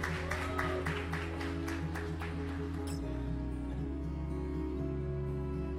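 A burst of audience applause, dense and irregular, rings out over a steady musical drone, then dies away after about three seconds, leaving only the sustained background tones; the applause is for a student receiving an award for her work on the Pé de Meia programme in Vitória da Conquista.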